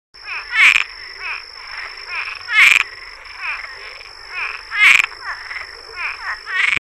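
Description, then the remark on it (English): An invasive, non-native frog that displaces local tree frog species calls in a rapid, chuckling series of croaks like a leopard frog's, repeated in bursts with brief pauses between them, clear, with a steady high insect-like hum behind it. “Its call is somewhat like the chuckling sound of the leopard frog, but you'll hear it from habitats in which you will not find leopard frogs.”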